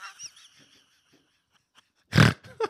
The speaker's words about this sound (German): Oh, da war wieder so ein Schnarcher. Ich habe wieder geschnarcht.